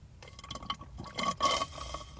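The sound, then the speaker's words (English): Liquid sounds of someone drinking a beverage from a plastic cup, with a few sloshing swallows and faint clinks in quick succession, no talking. “Let's finish these up. If you got them, drink them. Bottoms up.”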